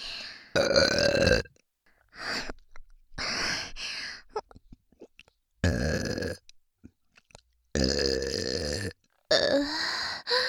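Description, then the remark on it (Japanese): A run of about six loud, drawn-out burps after drinking a lot of carbonated water, with short pauses between them. Each one is croaky and rumbling, some longer and stronger than others, with no talking in between. “しっかりゲップさせていただきますので。”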